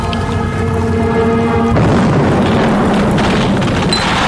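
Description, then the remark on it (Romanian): A steady droning hum with sustained tones abruptly gives way to a loud, roaring explosive blast as a Boeing 327 Lux airplane blows apart at high altitude, rumbling on as a dense, noisy wash until the end. “Bupuituri de șampanie și avion în fărâme.”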